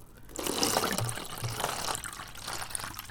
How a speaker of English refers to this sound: go ahead and pour the alcohol.